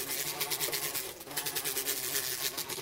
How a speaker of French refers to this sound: Par conséquent, on va se barrer vite fait, monter rapidement à bord du bateau et démarrer le moteur.